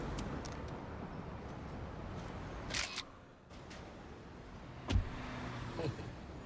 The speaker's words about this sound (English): He plays Prop Joe. The man who just drove away in the car.